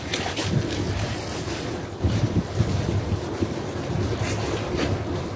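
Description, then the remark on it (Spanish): Flames of a fire set by a single person crackle over a steady, loud roaring rush, with sharp pops and snaps scattered irregularly throughout. No one speaks. “Eso es un tramo, es un video en donde eso que se escucha es el crepitar de las llamas, aunque no lo puedas creer, y es un desastre lo que hizo esta sola persona, que ojalá prontamente sea detenida.”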